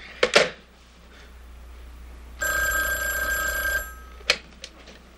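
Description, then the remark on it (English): A telephone bell rings once in a sustained, bright metallic burst lasting over a second, bracketed by a few sharp clicks and clunks from handling the handset; no one speaks. The operator is calling the phone back to check that it rings. “I don't think my phone is ringing when it's supposed to, so do you think you can call me back and check it?”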